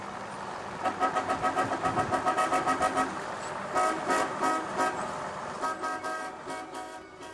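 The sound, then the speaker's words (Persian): A car engine cranks with a quick rhythmic chugging as someone gets into the car, then horn honks blare in several short bursts, loud, with no voices. “سوار ماشین شد، گفتیم ما رو میرسونی تا وسط شهر؟”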